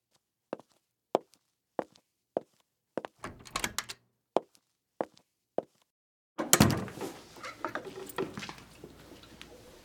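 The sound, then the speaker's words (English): Steady, evenly spaced footsteps approach, then a brief rattle of a handle before the door to a priest's office swings open with a loud thunk, followed by a noisy rustling shuffle. No one speaks. “This door leads to your office?”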